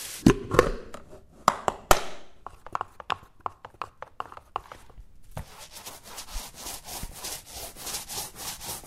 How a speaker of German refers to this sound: Also ich habe Schneiden gehört vom Brett oder Bohren.